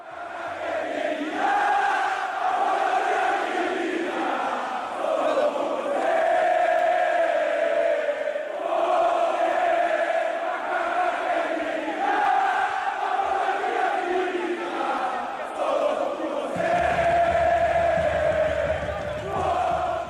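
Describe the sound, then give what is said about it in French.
A large crowd of Ponte Preta football supporters in Brazil sings the chant 'Macaca Querida' in unison, a loud, steady melodic roar of many voices that holds for the whole stretch, with a low rumble joining near the end. “On va écouter Macaca Querida.”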